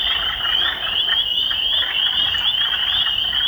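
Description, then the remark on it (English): A dense chorus of frogs calling in spring, a continuous high-pitched trilling wall of sound that stays steady and loud throughout, with no voices. “Frogs wake from their frozen slumber.”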